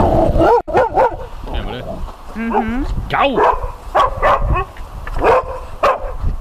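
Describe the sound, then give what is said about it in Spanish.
A dog barks repeatedly in short, sharp bursts mixed with higher yips and whiny tones, while a person speaks briefly over the noise. “Perro.”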